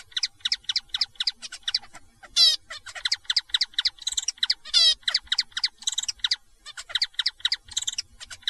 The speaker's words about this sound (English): So that's a cross-tutored zebra finch. So he's learned the trill-like syllables of a Bengalese finch, but he sings them with these truncated phrases that are more typical of a zebra finch.